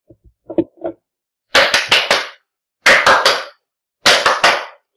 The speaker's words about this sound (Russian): Звуковое в виде аплодисментов, которые мы шлем вам, люди Земли, для общения с нами.